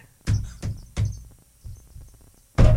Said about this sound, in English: Here's what it is. When I hit the counter, did you hear that? I did. When I hit the counter, it's like a parakeet. There's a squeaking. Yeah, it's like a parakeet in here.